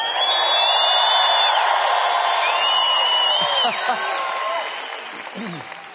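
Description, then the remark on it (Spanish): A large audience at a church in Lakewood shouts and cheers together, a dense wall of voices with whoops rising above, loud and sustained before gradually tapering off toward the end. “Yo creo que la gente en Lakewood puede hacer mucha más bulla santa que esa que usted acaba de hacer.”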